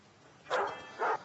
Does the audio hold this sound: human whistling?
no